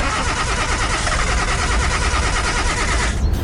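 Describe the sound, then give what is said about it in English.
A car engine cranks over and over with a steady, rapid grinding rhythm, loud, failing to start before it cuts off. No voices are heard. “Oh no, the car's not starting.”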